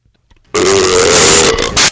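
A loud, distorted burp bursts in after a brief near-silence and drags on for over a second, harsh and clipped as if overdriving the microphone.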